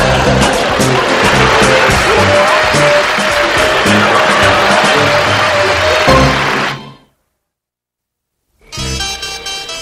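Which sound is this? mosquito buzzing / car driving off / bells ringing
car driving off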